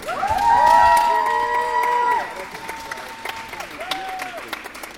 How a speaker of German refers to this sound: Viel Applaus ernten die Athletinnen und Athleten in der Sporthalle der Eintracht Dortmund. Auf der Bühne kann Akrobatik, Kraft und Eleganz bewundert werden.